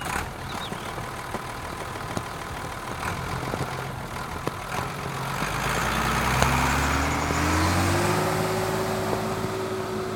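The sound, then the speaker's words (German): A tractor engine drones steadily as the tractor drives home after a wagon is loaded with bundles of brushwood, its pitch rising slightly as it speeds up, with broad rushing headwind noise across the whole recording and no voices. “Fahrtwind auf dem Traktor.”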